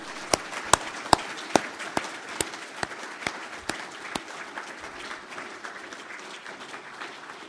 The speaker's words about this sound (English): In inviting you to enjoy the rest of the day, I wonder if you just join me in a round of applause for Christopher.